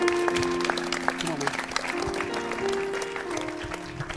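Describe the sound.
Sustained applause from a crowd fills the room, a dense steady clatter of clapping with sustained tones and some voices mixed underneath.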